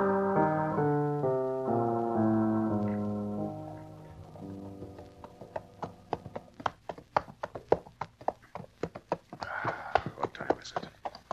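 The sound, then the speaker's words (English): Rapid hoofbeats of horses galloping at a hard pace as riders give chase across dry, dusty country, a fast irregular clatter of sharp thuds that grows more prominent as orchestral music with sustained tones fades out in the first few seconds. “You better ease up. Horses will never stand this pace.”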